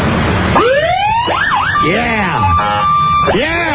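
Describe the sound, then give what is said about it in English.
A police car siren, switched on by a Montgomery County police officer, whoops and wails loudly in rapidly shifting electronic sweeps, rising and falling through several tones with a steady held note, filling the whole moment with piercing sound. “Would you just turn on the siren for a second for us?”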